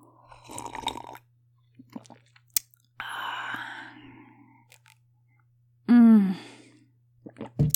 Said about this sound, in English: Let me take a little sip of my coffee with this. Oh, it's so good.